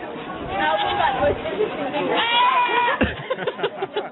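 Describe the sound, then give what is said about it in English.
Goats bleat loudly and repeatedly, one goat's cry wavering into a human-like call that sounds like it says "Ed", with several overlapping goat voices, continuous. “It sounds Ed. Like sound like he's saying Ed.”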